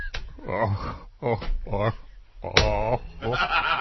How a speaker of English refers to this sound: This is what it sounds like when turtles cry.